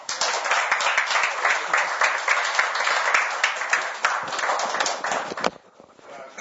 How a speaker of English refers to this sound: I mean, this man truly deserves an applause.